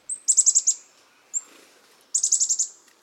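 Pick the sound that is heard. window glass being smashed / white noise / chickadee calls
chickadee calls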